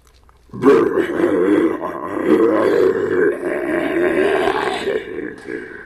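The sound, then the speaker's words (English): A person imitates a bear with a deep, rough, sustained growl that starts abruptly and holds loud for about five seconds, rumbling and raspy throughout. “But if you just do the normal bear growling sound, like a that kind of thing, with the benefit of this.”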